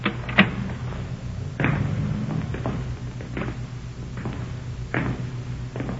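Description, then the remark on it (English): Heavy knocks on a door come in a few irregular bursts, some single and some in quick pairs, over a steady low hum, with no voices. “Stops at that door. Come on. Come on. Open up.”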